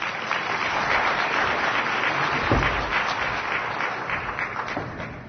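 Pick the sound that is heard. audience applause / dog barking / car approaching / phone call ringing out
audience applause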